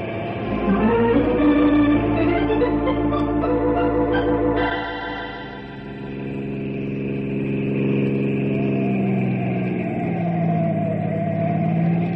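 A car engine roars and revs steadily during a chase with a patrol car following, on hilly, curvy country roads. Its pitch climbs and shifts as it accelerates hard, then drops slightly before surging again, loud and continuous with no talking.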